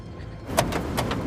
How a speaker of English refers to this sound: Ed pulls at the back doors of the van.